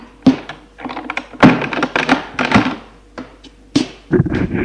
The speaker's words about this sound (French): Il entre. Elle ferme la porte.